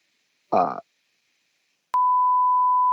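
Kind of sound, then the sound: sound effect, censor beep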